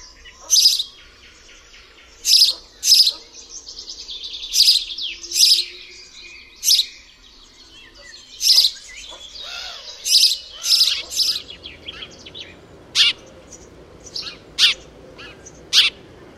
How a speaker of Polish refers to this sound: Gdy z gniazd wylecą już pisklęta, w stadzie wróbli można usłyszeć także dźwięki mniej zdecydowane, bardziej modulowane i wydawane w mniej regularnych odstępach. Są to właśnie głosy młodych.